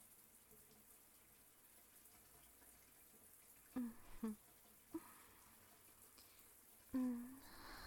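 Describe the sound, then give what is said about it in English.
A shower runs steadily as someone showers, its water making a constant soft hiss for the whole stretch, broken midway and near the end by a few short, louder squeaky bursts. “I need to jump in the shower.”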